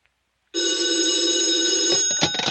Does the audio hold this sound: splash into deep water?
no